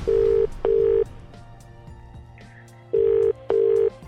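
Telephone line tones as a call from the JD Show on Free Radio connects: two pairs of steady, fairly loud electronic beeps in a double-ring rhythm, separated by a pause, with a faint low hum underneath and no talking.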